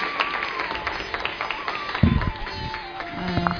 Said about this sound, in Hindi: खड़े होकर के आदरणीय दीदी जी का स्वागत करेंगे, अभिनंदन करेंगे जोरदार तालियों के साथ।